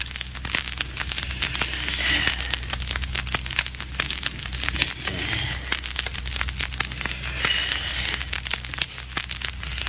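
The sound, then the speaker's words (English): A diamond ring scoring a glass window pane during a break-in: a steady, gritty scratching and crackling that runs unbroken for about ten seconds, with faint high squeaks and no voices. “Take my ring and use a diamond on that window pane.”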